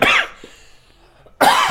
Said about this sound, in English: and he's going to cough directly. I'm going to die. Are you okay? Yep. You eating that gluten? That gluten cough.